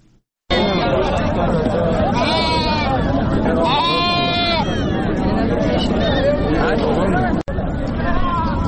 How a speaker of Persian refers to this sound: گنج بازار یا بازار فروش مواشی در اندخوی فاریاب میزبان هزاران حیوان از جمله گوسفند و گاو است.